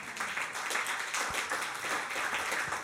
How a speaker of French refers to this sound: Est-ce que tu peux applaudir pour le Seigneur Jésus?